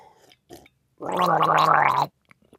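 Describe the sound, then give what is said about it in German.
Someone gargles a sip of water in one steady, bubbling burst lasting about a second, a loud throaty rattle with quick pulses, framed by a few faint short noises before and after. “Ein Bild gurgelt nicht.”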